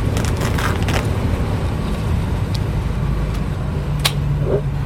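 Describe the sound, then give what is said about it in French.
Steady low rumble of a car's cabin while driving, with road and engine noise droning throughout and a few faint clicks and rattles on top; no one speaks. “On n'a même pas d'autoradio dans cette voiture, donc on va le mettre sur une petite enceinte.”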